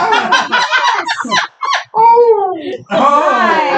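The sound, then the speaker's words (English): A person does a loud imitation of a puppy howl, a wavering, rising-and-falling whine lasting under a second, preceded by a burst of excited, yelping vocal sounds. “Oh, good puppy howl.”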